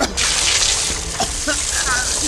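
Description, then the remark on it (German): A steady, loud rush of water gushing from a hose onto a burning stack of car tires, the hose's pressure not especially strong, a continuous hissing spray that fills the whole clip, with faint voices breaking through near the end. “Wassermarsch!”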